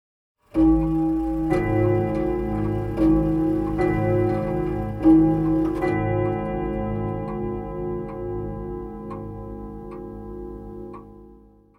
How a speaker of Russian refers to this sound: Большие часы в столовой пробили 10 вечера.